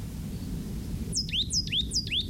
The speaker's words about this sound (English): Bird that I'm recording, plain titmouse number 4, is either the same bird that I recorded the calls of or the male of the pair. It's in the same place. It's singing from live oaks that are about, 10 feet tall